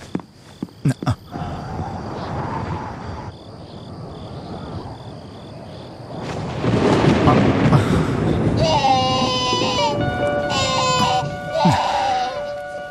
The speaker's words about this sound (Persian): چیزی نیست، فقط طوفانه.